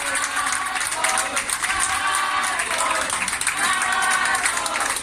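Steady, dense applause from a group keeps up for the whole stretch, with voices chanting together in rhythm mixed into the clapping.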